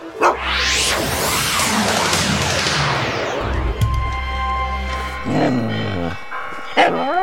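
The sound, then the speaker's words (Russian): Church bells ring out over a noisy outdoor scene near the Kremlin in Moscow, on Nikolskaya Street, with a couple of clear strikes whose metallic tones hang and slowly fade, while a sweeping rush of background noise and activity runs beneath. “О, мы снова неподалеку от Кремля. В колокола звонят.”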